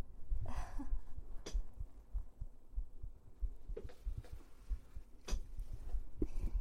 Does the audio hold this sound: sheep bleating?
no